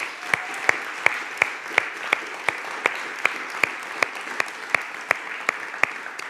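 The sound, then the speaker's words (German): Audience applause at a church service for the staff who make the service possible: a steady wash of many hands clapping, punctuated by a few sharper, louder claps at a regular beat, sustained throughout with no talking. “Und lasst uns doch mal den Leuten, die hier den Gottesdienst möglich machen, den Mitarbeitern einen kräftigen Applaus geben.”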